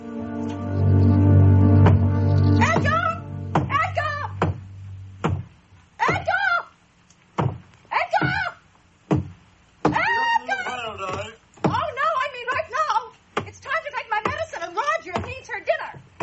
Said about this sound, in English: I certainly can't go to sleep with that incessant hammering going on down there.